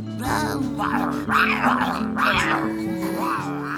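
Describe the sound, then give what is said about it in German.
A voice imitates young dragons roaring, giving several rising-and-falling growly cries in quick succession, fairly loud over a steady background tone. “Ein Jahr verrann und dann im zweiten Jahr war Brüllen dran.”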